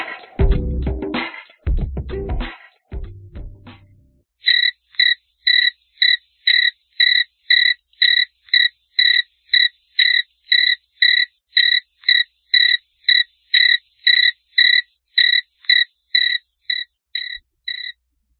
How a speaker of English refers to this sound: Right, long pause. Yeah, lots of crickets are going silent.